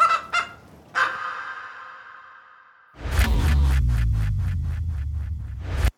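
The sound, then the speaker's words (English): Chickens cluck: two quick calls and a long drawn-out squawk, then a rapid run of rhythmic clucking over a low rumble, with no one speaking. “It would definitely help these chickens.”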